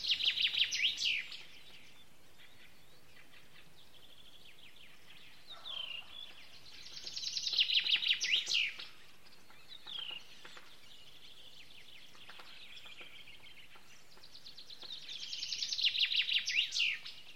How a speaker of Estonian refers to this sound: See oli metsvint, üks Eestimaal veel üsna arvukalt esinev lind.